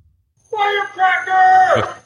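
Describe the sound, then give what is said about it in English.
A man, caught on a surveillance camera in the middle of the night, loudly yells and screams, imitating firework noises across a canal on Southeast 10th Avenue in Cape Coral, in a drawn-out, strained shout that rises and then breaks off after about a second and a half of continuous vocalizing. “A surveillance camera caught him screaming firework noises across the canal on Southeast 10th Avenue”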